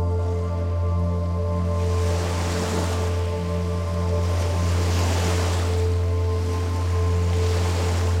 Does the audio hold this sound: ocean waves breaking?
yes